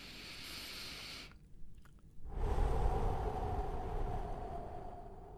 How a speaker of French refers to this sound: c'est tout simplement quand vous le ressentez, typiquement plusieurs minutes avant de rentrer sur scène, vous avez un petit peu cette boule au ventre, vous faites une grande respiration profonde, comme ça.